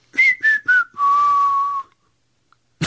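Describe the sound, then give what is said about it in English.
Kevin and Bean whistle a hit song: clear whistling of a short tune, three quick notes stepping downward, then one long held note that fades out, with no talking. “If that'll shut you up, we'll whistle the hits.”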